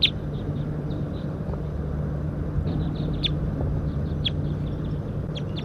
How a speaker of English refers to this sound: So recording the wild birds here now, and one is up in the pine tree cooping. It may be a new release.